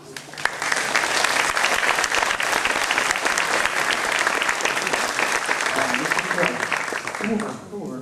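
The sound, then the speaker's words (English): An audience at a conference at INSA Lyon claps steadily for several seconds for the director of INSA Lyon, a dense, even wash of many hands at a fairly loud, constant level that tapers off slightly at the very end. “I'd like to applause him.”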